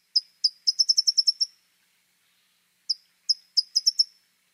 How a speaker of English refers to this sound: One of the many, many lovable qualities of towhees is they are a relatively rare bird that mates for life.